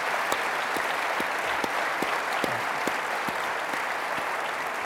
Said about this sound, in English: Thank you all for joining us tonight. Let's give a big round of applause for Alex Rodriguez.